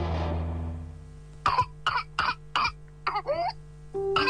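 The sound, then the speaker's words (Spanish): A rapid series of harsh, intense coughs comes in close succession, followed by a strained, wheezing inhalation and another cough, the kind of paroxysmal fit typical of whooping cough. “La tos convulsa es una enfermedad contagiosa que afecta las vías respiratorias. Se caracteriza por una tos intensa que puede durar semanas y, en casos graves, causar neumonía, convulsiones o incluso la muerte.”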